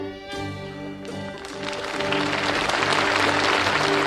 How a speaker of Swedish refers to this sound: Det var live-upptagning. Ja, ja. Applåder